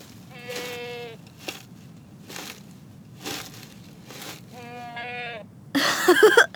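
Goats in a field bleat twice, two wavering calls a few seconds apart, with soft rustling thumps in between and a sudden loud, noisy burst at the very end.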